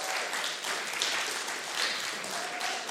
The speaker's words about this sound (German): Danke, Jesus, vielleicht geben wir Jesus nochmal einen dicken Applaus.